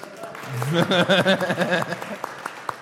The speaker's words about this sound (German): Vielen Dank für deine Offenheit und dein Mitteilen. Kleiner Applaus bitte.